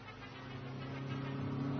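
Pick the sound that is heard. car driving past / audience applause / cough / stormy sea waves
car driving past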